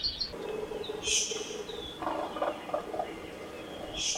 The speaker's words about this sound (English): The birds we're listening to are predominantly honeycreepers, a diverse group that descended from a Eurasian finch 3 to 5 million years ago